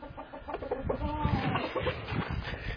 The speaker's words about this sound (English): They're singing right now. These chickens sing. There's Junior. Junior is 4 years old. Hello, Junior. Say hi to everybody out there. And that Fancy Pants, he's 14 years old. I had these chickens all of my life.